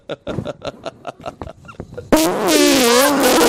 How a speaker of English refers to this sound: That's the first time we've farted on the cast in a while